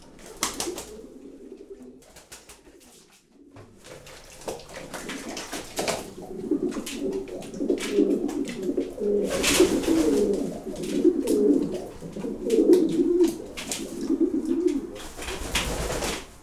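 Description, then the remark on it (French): Several pigeons coo in low, throaty, overlapping calls as they bathe at a pigeon loft, a pair of Carnot pigeons in the bath, with occasional wing flaps and splashing-like rustles; no one speaks. “Ce sont des pigeons généralement un peu batailleurs, mais bon, ils se sont bien adaptés à notre pigeonnier.”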